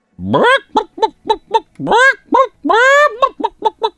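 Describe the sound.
A person loudly imitates a chicken on a 98FM radio show, alternating three drawn-out, rising squawks with quick runs of short, choppy clucks in a steady rhythm.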